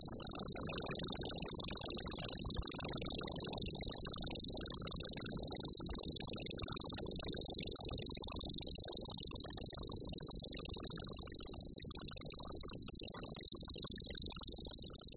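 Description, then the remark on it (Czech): A common grasshopper warbler, a small grey-green songbird, gives its reeling song: a continuous, high, insect-like trill that runs unbroken and at steady volume for the whole stretch, with no talking. “Jeho původcem je cvrčilka zelená, drobný šedozelený ptáček z řádu pěvců.”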